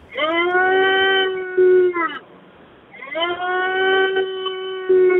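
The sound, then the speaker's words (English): A caller roars down a telephone line to warm up: two long, sustained, tonal bellows with a brief pause between them, loud and thin-sounding from the narrow phone bandwidth, with no talking. “He roars, please. He's warming up.”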